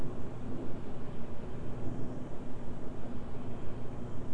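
A low, steady rumble of thunder outside rolls on throughout, soft, with no voices and only gentle swells in loudness.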